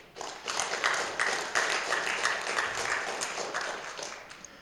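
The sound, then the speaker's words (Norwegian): People applaud Geir and the team steadily for several seconds, a dense wash of many hands clapping at once that holds an even level before tapering off at the end. “De kan jo få en klapp.”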